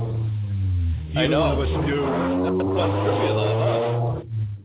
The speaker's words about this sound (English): Yeah, sorry. Wild car just drove by my window.